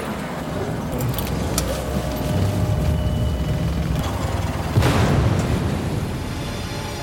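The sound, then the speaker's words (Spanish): A sudden explosion that sends up smoke bursts out midway through a steady, rumbling background like passing traffic, followed by a lingering roar as the noise slowly settles. “La oficina del doctor estaba lo suficientemente cerca para poder ver el humo de la explosión desde la ventana.”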